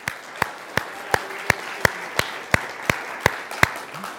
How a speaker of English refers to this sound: Good morning, everybody. I think that's worth an applause.